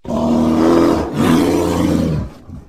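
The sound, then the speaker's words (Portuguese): A loud roar sound effect in two long, growling bursts with a brief break between them, trailing off into a short low rumble at the end. “solta esse rugido maravilhoso porque é hora de falar de Chicago Bears.”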